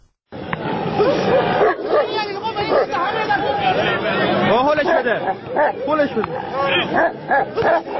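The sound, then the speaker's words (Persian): Two dogs snarl, bark and yelp in a rough, continuous fight at a dogfighting contest in Zanjan, Iran, while a dense crowd chatters and shouts loudly around them, the noise sustained from start to finish. “در این نبرد خونین صاحبان دو سگ با نواخته شدن سوت مسابقه حیوانات را به جان هم می‌اندازند و با تحریک کردن آنها در نهایت صحنه دلخراشی شکل می‌گیرد که خبرگزاری تسنیم آن را به یک فیلم سینمایی تشبیه کرده است.”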